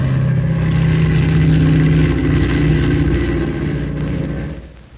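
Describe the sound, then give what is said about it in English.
A transport plane's engines roar as it takes off with the wind, a loud, steady droning rumble with low humming tones that holds for several seconds before fading away at the end. No voices. “Boy, I never seen one of them transport planes take off like that before.”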